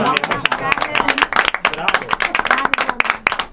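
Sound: applause clapping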